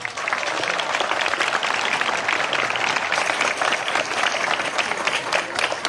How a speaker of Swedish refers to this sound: Men först ger vi en varm applåd till vår nationaldagstalare